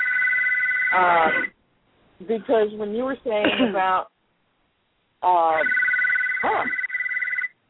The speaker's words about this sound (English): I have no idea who's calling you on the other phone. Sorry about that, folks.